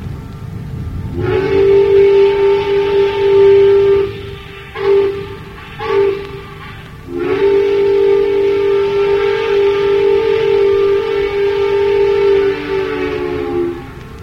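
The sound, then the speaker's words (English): The whistle of the steam towboat F.M. Staunton, operated out of Charleston, West Virginia, 1930-1938, sounds a long, steady, mid-pitched blast, two quick short toots, then another long sustained blast. Loud and rich in overtones, with no voices. “He kept the whistle, and here he is blowing it.”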